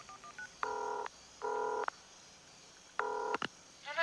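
A series of telephone keypad tones as a woman dials the phone in her bedroom to call her mother: a few quick short beeps, then three longer steady dual-tone presses with gaps between, ending in a brief click, clear with no talking.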